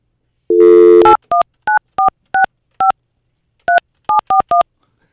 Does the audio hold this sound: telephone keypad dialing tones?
yes